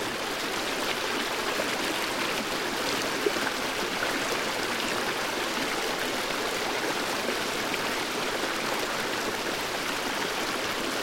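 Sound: flowing stream water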